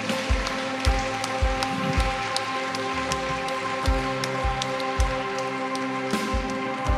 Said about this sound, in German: Lass uns mal dem Retter einen Applaus geben. So. Danke, Jesus.